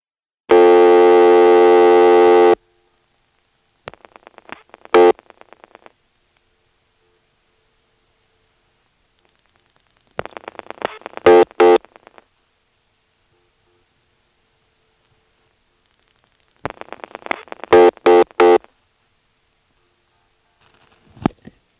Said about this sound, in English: your dial is too slow, too fast, or just the right speed, you'll hear one beep, three beeps, or two beeps. So here's a demonstration of dialing zero three times, speeding up and slowing down the dial as necessary to get one, two, and three beeps.